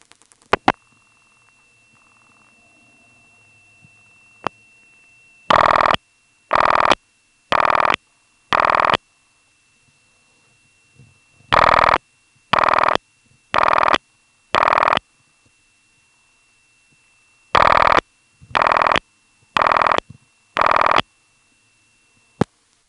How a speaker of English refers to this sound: Carolina Tel has a lot of these small step CDOs that have coded ringing. The last digit of the phone number determines which ring you get.